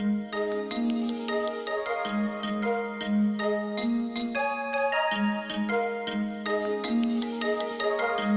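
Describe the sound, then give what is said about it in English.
A mobile phone ringtone plays the Law and Order theme, a bright electronic melody with steady, repeating notes. It is loud, with nobody speaking over it. “Oh, and by the way, my ringtone is Law and Order theme.”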